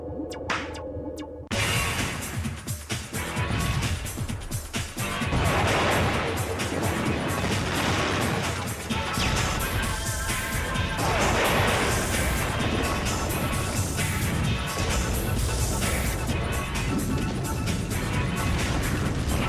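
A dense barrage of fireworks exploding, loud booms and crackling bursts piling on top of each other almost continuously after a brief quiet start, with no voices.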